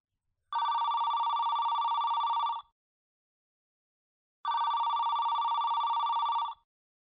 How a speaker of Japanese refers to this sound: 思わずゾクゾクっとする。だってそうでしょ？電源を切ったはずの携帯電話が鳴っているのだもの。